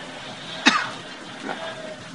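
A single sharp cough bursts out, followed a moment later by a softer, throatier sound like a throat being cleared, both fairly close against a quiet background.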